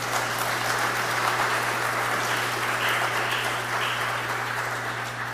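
A crowd applauding steadily for about five seconds after a new pastor introduces himself, a dense, even wash of many hands clapping at once with no voices over it and a faint low hum underneath.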